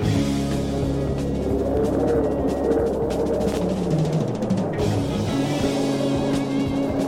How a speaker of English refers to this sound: In front of me, there, a car, a 77 Vega wagon, butterscotch colored. The keys are in it. It's idling. No driver in sight.